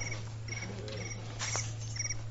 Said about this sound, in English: That was a loud cricket. Real new, I know. A very loud cricket, man. Didn't realize it was your phone. I thought, man, that's a big cricket.